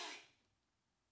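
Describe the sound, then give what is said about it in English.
A single sharp sneeze bursts out at the very start, a brief breathy explosion that fades quickly into near silence. No one speaks during it. “Bless you.”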